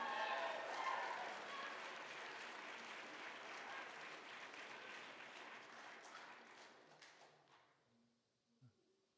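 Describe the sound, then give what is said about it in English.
A youth group claps politely in a soft, steady golf clap, a dense patter that gradually thins and fades over several seconds until only a couple of scattered claps remain. “I'm grateful I got the little golf clap from the youth group.”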